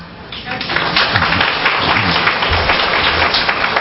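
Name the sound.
warm applause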